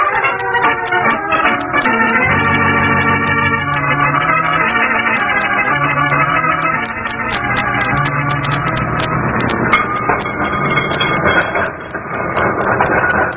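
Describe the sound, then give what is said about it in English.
A cable car rolls down Knob Hill on its second trip down with a steady, loud mechanical rumble, a busy clatter of rattling clicks, and shifting whining tones from its machinery, with no voices heard. “I'm crazy about riding in the open section of these cable cars.”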